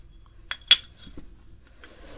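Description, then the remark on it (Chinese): Bowls and chopsticks clink together as they're cleared, two sharp clatters followed by a few softer taps and faint shuffling, with no voices. “啊，碗筷你放着吧，我收拾完了就来陪你演练。”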